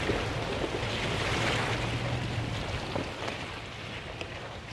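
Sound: river water flowing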